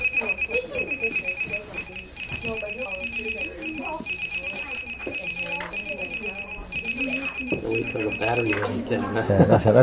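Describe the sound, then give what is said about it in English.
A high-pitched electronic timer alarm beeps in rapid, steady pulses for several seconds while people talk, then cuts off just before the end. “Otherwise, if you want to stop it, just hit timer.”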